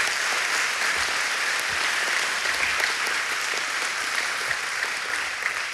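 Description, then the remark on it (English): Sustained applause from an audience for everybody that spoke and the people on the video, a dense, steady wash of many hands clapping at once for several seconds, fairly loud and even throughout. “Let's give everybody that spoke another round of applause and our people on the video.”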